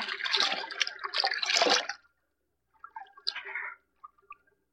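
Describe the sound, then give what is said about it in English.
Splashing, rushing water of a stream fills the first two seconds, then after a short pause come softer gurgling, slurping sounds of someone drinking from the stream. “The stream, all right. Let me get one drink.”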